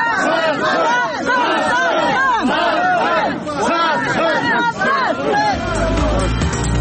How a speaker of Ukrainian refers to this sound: Під вигуки зрадник люди прогнали чоловіка з кладовища.